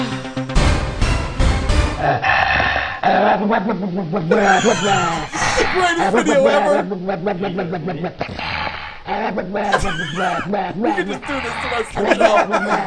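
A person makes a rough, drawn-out growling noise imitating a dog, loud, rising and falling over several seconds, with snickering laughter mixed in.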